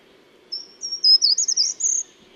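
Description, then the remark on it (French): A short-toed treecreeper sings a brief, high-pitched phrase of thin, accelerating notes lasting about a second and a half, rising and falling slightly before ending abruptly over a faint low background hum. “Grimperont des jardins.”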